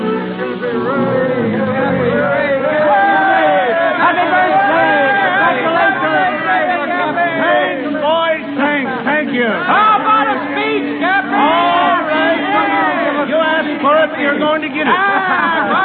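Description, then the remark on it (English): A huge crowd of sailors and ship owners on the steps of the Blue Star Line shipping office by the wharves chatters and laughs all at once, congratulating an old-timer on his 60th birthday; a dense, lively babble of many overlapping voices, steady from start to finish, with no single speaker standing out. “On the steps of the Blue Star Line, Cappy Ricks, the president, faces a huge crowd of sailors and ship owners.”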